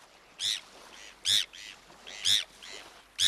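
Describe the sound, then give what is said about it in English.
Bonaparte's gull calls, a series of harsh, raspy notes in a steady rhythm, with louder calls alternating with softer ones, clear against a quiet background. “This is one gull you're never going to see in a garbage dump.”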